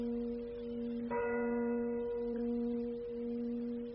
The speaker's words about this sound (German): Haben Sie die Glockenschläge gezählt? Wozu? Meine Zeit ist vorüber. 9? Wie? 9?